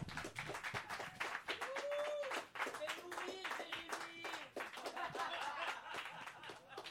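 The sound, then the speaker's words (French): A crowd applauds steadily and loudly for several seconds as a comedian is introduced, dense clapping with scattered whoops, cheers and a bit of laughter mixed in. “On est très content d'avoir, et vous allez l'applaudir”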